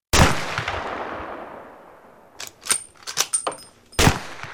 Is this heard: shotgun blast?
yes